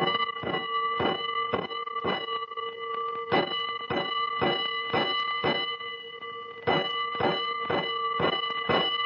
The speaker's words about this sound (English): Five bells. Stand by all stations. Attention, all districts. A five-alarm fire, five bells.